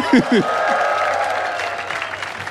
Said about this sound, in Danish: Kan vi få et bifald for Grease?